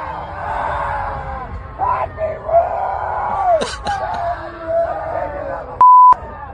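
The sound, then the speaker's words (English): A large crowd of people at the Bonnaroo festival screams and yells together on finding out the festival is canceled, in a sustained, overlapping roar of voices, with sharper shrieks rising above it, cut briefly near the end by a single steady censor bleep. “Please keep in mind, this is just people at Bonnaroo finding out that it's canceled.”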